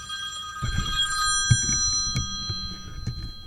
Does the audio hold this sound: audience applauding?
no